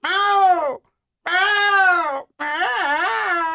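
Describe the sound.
A human voice mimics an unhappy cat, as a cat would sound if taken home to an apartment in town, with three loud, whiny meows separated by short pauses. The last is wavering and drawn out, rising and falling in pitch.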